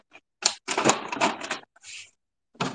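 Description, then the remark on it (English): Crisp crinkling and rustling of a large pile of paper and plastic bags being handled and sorted into a container, in a few dense bursts separated by brief pauses, with no talking. “It's a mountain of paper and plastic bags.”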